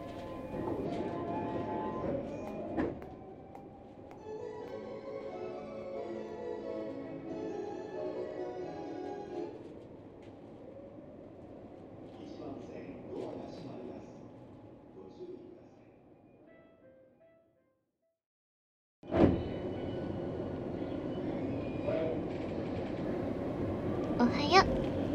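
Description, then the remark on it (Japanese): Steady rumble of a moving, packed commuter train car with a rising tonal whine and murmuring voices in the background, briefly cutting out before the noisy carriage ambience returns. “今日も電車一緒だね。この時間ほんといつも混んでるね。”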